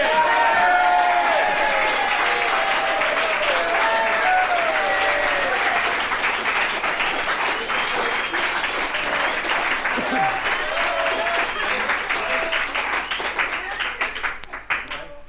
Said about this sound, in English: Round of applause for …. Come on.